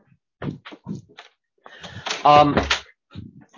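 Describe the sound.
A door swings shut with a short creak and a soft closing thud, surrounded by brief shuffling movements and faint murmured voice sounds.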